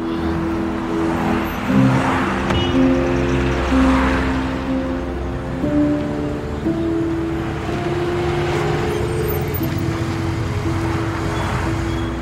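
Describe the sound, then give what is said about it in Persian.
A motorcycle engine drones steadily and fairly loudly, holding a low humming pitch that shifts now and then, with no voices, as a man rides the motorcycle toward a man sitting in a car. “اسماعیل با موتور سمتش میاد.”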